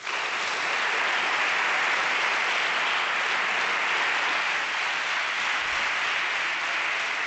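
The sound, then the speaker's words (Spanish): Sustained, dense ovation from the Grupo Popular in the Madrid regional parliament at the close of the state of the region debate, a steady roar of many hands clapping at once with no break and no voices, holding loud from start to finish. “Con esta ovación del Grupo Popular ponemos el punto final al debate del estado de la región, por lo menos en su parte argumentativa, porque todavía habrá que hacer votaciones a última hora de la tarde.”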